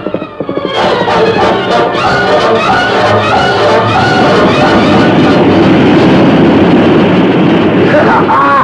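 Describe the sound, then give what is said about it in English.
Floodwater from a burst dam roars in after a brief softer opening, a dense, steady rushing surge that stays loud and unbroken to the end. “It's going faster than the spring freshet.”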